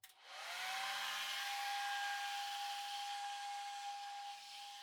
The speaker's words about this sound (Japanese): そうそう、ドライヤーって風をただ当てるだけじゃあまり効果がないんですよ。 こうやって手ぐしをしながらやるといいんです。手ぐしをすることによって髪と髪の間に空間ができるんです。そこにドライヤーの風を通してあげるんですよ。